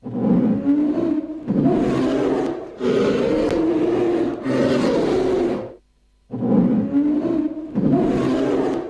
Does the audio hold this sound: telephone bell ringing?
no